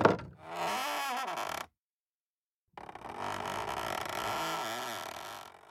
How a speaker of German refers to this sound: Dann öffnete sie die Tür vorsichtig.